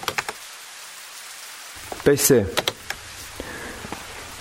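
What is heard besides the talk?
rain falling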